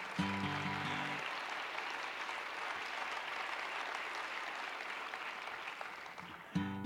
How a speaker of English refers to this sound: Now I'd like to, she deserves some applause, doesn't she? Yes.